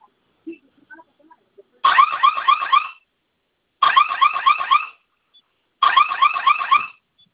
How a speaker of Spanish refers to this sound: Vamos a mantenerlos presionados los dos juntos. En cuanto comience a sonar la alarma, vamos a ingresar la clave que usted escogió.